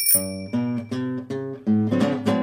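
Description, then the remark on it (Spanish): A bright bicycle bell rings at the start, its ding lingering briefly, then a run of short tuned notes follows in a bouncy, even rhythm. No voices are heard. “La bicicleta, gling-gling, la bicicleta, gling-gling.”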